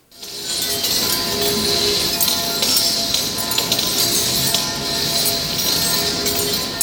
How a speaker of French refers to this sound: on entend ses couteaux qui viennent se frapper les uns contre les autres